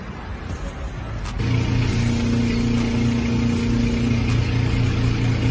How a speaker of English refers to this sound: Everybody who is watching me get air in my tire as a woman, letting me do this by myself, it's crazy.